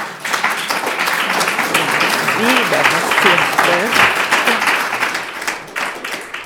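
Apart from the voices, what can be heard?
audience applause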